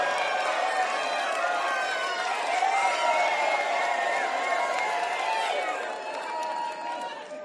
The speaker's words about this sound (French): Je veux que vous soyez la foule qui crie après le Seigneur.